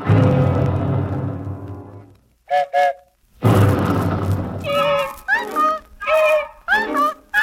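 Two long, deep rumbles of rolling thunder, each fading out, separated by short high tones, followed by a run of warbling, whistle-like tones over a lingering low roll.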